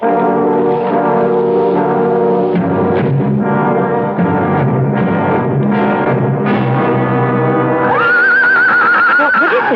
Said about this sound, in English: Silly horse doesn't want to go through the gates.